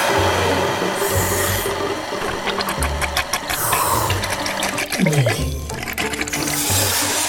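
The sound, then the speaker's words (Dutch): A loud, steady gush of spraying water rushes on throughout, with hissy bursts swelling at intervals, rapid clicking patter and a brief falling squeaky tone partway through, as Olly sprays a big stream of water from his trunk to clean out a whale's blowhole in the sea. “En dan spuit hij met een grote stroom water het spuitgat van de walvis weer helemaal schoon.”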